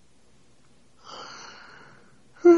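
One drawn-out, breathy yawn lasting just over a second, with a faint voiced groan running through it, fairly quiet, followed by a brief louder vocal sound at the end.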